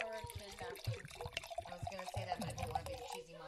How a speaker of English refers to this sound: I love the sound of wine pouring. There's a couple of sounds in this world that are just always happy sounds. One is wine pouring, the other one is champagne cork popping.